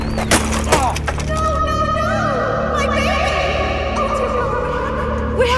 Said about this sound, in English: I just lost control of my bike and crashed. Only skinned my knee a little bit. Nothing too bad.